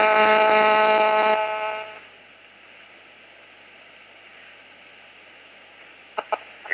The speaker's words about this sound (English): No, I think it's a cell phone. Hold on a second. Okay. Let me just see if I can get this.